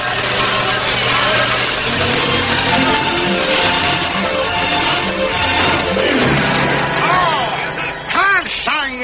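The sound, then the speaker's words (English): An early gasoline car engine snorts and chugs in a loud, steady rumble with rattling clatter, mixed with voices and crowd noise, and a brief wavering whine near the end. “Noisy, snorting, gasoline monster.”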